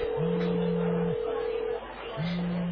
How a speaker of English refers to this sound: The group is happily enjoying their meal, when suddenly, Junaid's phone begins ringing incessantly.